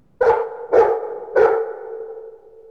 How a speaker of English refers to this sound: Dog.